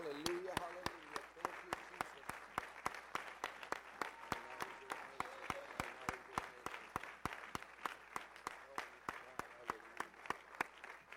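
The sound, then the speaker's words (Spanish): A church audience applauds the Lord Jesus Christ before the sermon, a dense wash of clapping punctuated by sharp, regular louder claps in a quick rhythm, with voices murmuring and calling out underneath. “Démosle fuerte el aplauso al Señor Jesucristo.”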